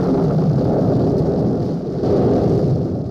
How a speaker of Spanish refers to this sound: tormenta aumenta de intensidad. La cortina de lluvia se hace más densa y los relámpagos rasgan la oscuridad de la noche.